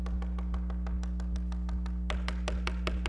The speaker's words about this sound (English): The little boy turned around, and he went back, and he began to knock again.